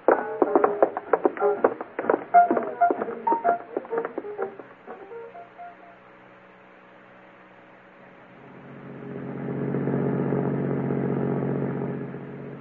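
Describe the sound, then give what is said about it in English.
A burst of clattering, mechanical noise gives way to a brief lull, then a sheriff's car engine swells into a steady, fairly loud roar as the vehicle pulls away to give chase. No one speaks. “Get the car started.”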